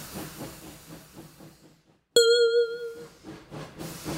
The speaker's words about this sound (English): Here's the train, Mickey. Good. I like trains.